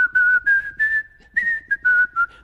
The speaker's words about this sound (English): One day I was in Kroger, and I was whistling it just like they sang it. I was whistling.